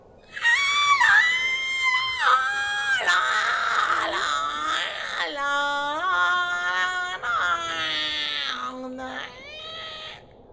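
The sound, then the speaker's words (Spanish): A human voice imitates an angry cat as someone tries to sing, letting out long, harsh, wavering screeches that swoop up and down in pitch. The loud yowling runs nearly continuously for about ten seconds with brief breaks. “Pareces un gato enfurecido.”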